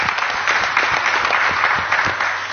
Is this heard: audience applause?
yes